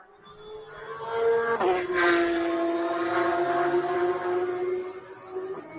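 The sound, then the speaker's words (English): Racing cars stream past on a circuit during a race, a loud, sustained high engine whine that drops sharply in pitch as one car passes, then continues steadily with no voices. “As the rest of the field stream by.”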